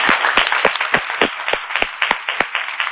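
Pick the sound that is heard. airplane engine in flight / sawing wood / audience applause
audience applause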